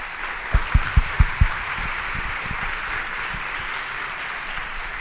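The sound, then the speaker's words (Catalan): A crowd applauds steadily in thanks to the outgoing and incoming committees, a dense wash of many hands clapping, with a few sharp, louder claps standing out near the start before the applause settles into an even patter. “Llavors, tot i que heu aplaudit, sí que us volia demanar que m'acompanyéssim en aquest aplaudiment global, tant per la comissió sortint com per la comissió entrant, per donar-li les gràcies per tot aquest esforç que fan per tots.”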